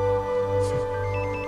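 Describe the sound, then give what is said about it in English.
A cell phone rings with a steady, electronic ringtone, its sustained tones filling the short moment with no voices. “He answers his cell phone.”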